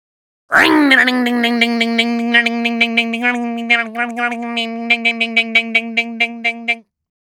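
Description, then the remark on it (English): A voice imitates a motorbike engine starting: a sudden loud buzzing drone that holds a steady pitch for about six seconds, with a rapid sputtering pulse running through it, then cuts off. “Motorbike starting.”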